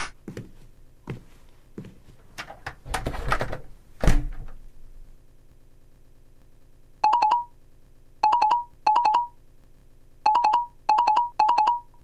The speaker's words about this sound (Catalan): El mòbil! No para de sonar!